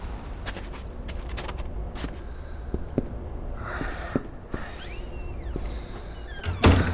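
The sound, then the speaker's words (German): A door is opened: scattered clicks and latch rattles, a brief rising creak, then a solid thump near the end. Nobody speaks. “Ist die Tür offen? Das müsste sie eigentlich sein.”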